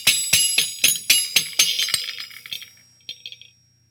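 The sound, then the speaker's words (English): Japanese horse bells jingle in a quick, bright series of about a dozen metallic strikes, high and shimmering, gradually thinning and fading out with a few last faint tinkles. “Now, at the very simplest, we have the sound of the Japanese horse bells.”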